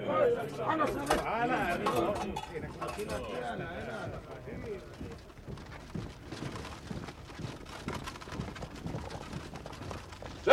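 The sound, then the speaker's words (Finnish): Horses' hooves clip-clop in a steady, busy patter as a military group, with horses and vehicles just unloaded from a train, marches behind an artillery battery at Kuolemanjärvi, with people talking over the first half before the hoofbeats carry on mostly alone. “Valmistautukaa purkamaan hevoset ja ajoneuvot junasta. Me märssimme tulipatterin jäljessä.”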